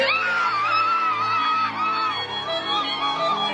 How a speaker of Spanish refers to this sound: Así fue la emoción en su casa, los gritos de todos, hermanas, mamá, él se para.